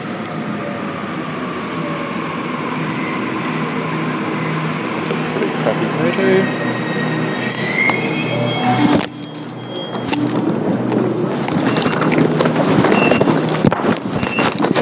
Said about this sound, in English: and here's my train." And it is a Waratah. Sweet!